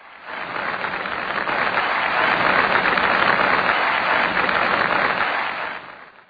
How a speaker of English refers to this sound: I think there's like they just took a little clap from a State of the Union. Remember one day we quickly did that and just had the same two-second clap over and over again.